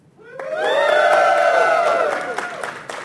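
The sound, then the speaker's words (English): A crowd cheers and shouts for about three seconds as a cheer vote for Samus over Alucard, many voices rising together into a loud, sustained roar before tapering off, with a few high whoops and sharp claps scattered through it. “Let's just do a cheer vote so the people on Twitch can participate as well.”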